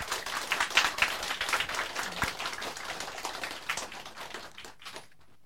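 An audience claps steadily for about five seconds, a dense patter of many hands at an even, moderately loud level, then the applause quickly dies away into near silence. No one speaks over it.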